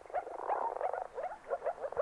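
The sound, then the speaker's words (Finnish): A chorus of frogs calling, with short, rising, bubbly notes repeating in quick, overlapping bursts. The sound is steady and moderately faint, with no voices. “Viitasammakon ja sammakon erottaakin helpoimmin äänen perusteella, sillä ulkoiset tuntomerkit ovat aika hankalia.”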